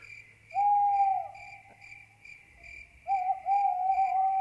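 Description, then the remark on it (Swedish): Two drawn-out owl hoots ring out clearly, one early and one near the end, over a steady, continuous chirring of crickets in the background, added as sound effects. “Ja, man kanske kan ha någon uggla också.”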